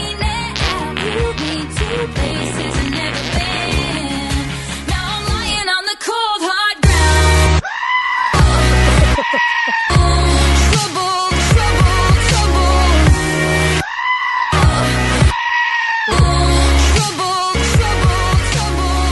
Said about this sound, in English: This is the goat version. Hell yeah. The screaming goat version.